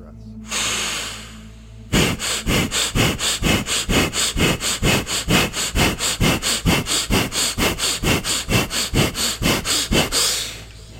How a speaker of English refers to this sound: 18 fire breaths.